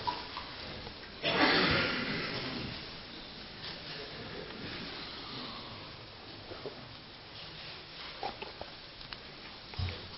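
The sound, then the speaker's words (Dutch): Someone takes a sip of water during a church gathering: a brief breathy slurp, then quiet swallowing and a few small clicks and taps. “Ik drink nog wat, een slokje water.”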